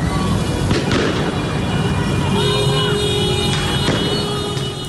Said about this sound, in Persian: گزارش‌های رسیده به رادیو فردا حاکی است که برخی شهرهای ایران شامگاه پنجشنبه نیز صحنه اعتراض‌های مردمی و بوق زدن خودرو بوده است.